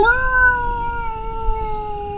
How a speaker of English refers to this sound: The rangers go check it out, flashlights shining into the bushes, when all of a sudden they hear this howl.